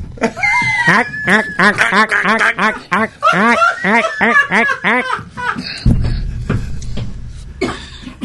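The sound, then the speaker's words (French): A voice imitates a duck, letting out a fast, loud run of nasal quacks for about five seconds. A short low rumble and a few scattered noises follow. “Mais les Martiens sont inspirés des canards, hein, je tiens à le préciser.”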